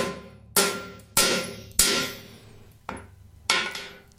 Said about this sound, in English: Hold on, that's the Wheel of Calamity. It's too soon. I'll be back in a second while I just hit that with a hammer.